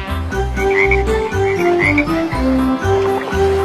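Deep, rhythmic frog croaks pulse steadily over a bright, tuneful musical backing, with no voices, each croak landing in a regular repeating pattern, loud.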